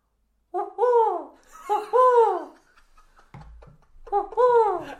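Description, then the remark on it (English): A person's voice imitates an owl, giving three drawn-out, wavering hoots, with a short pause and some faint low rumbling between the second and third. “I do a fantastic owl impression.”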